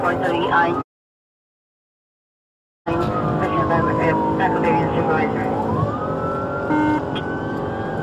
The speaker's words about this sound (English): The officers then activated their police vehicle's emergency lights and siren and initiated a vehicle pursuit.